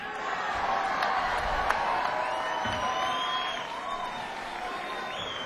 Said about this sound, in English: I want you to all put your hands together for my pants. And continue clapping for my shirt. And give a nice round of applause for my shoes.